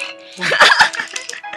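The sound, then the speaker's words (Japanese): A new Furby talking electronic toy with digital eyes lets out a short, gurgly synthesized burp after being fed, a single rough vocal-like burst over a faint steady electronic tone. “ゲップ吐いたね。”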